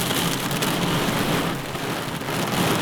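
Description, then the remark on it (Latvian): Steady, dense rain falls without pause on a farm, a continuous hiss of drops pattering on surfaces, loud and even throughout with no voices. “Tikmēr lietus līst, tāpēc arī sarunājamies ar saimnieces telpās, jo uz lauka tādā laikā nesot ko darīt”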